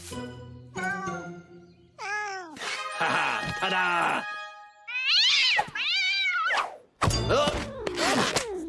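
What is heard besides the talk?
cat meowing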